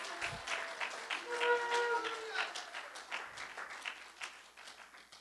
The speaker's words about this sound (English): So let's give him another clap. Give the Lord another clap.